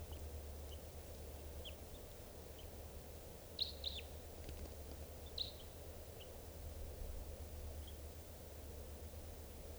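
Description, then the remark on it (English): Several short, high bird chirps ring out over a steady low rumble of background noise, the loudest pair coming close together near the middle, with fainter scattered tweets before and after. The bird has just been captured and is recorded as bird number 630. “Just captured that bird, and he will be number 630.”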